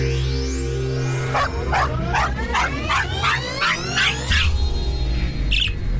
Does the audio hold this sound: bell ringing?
no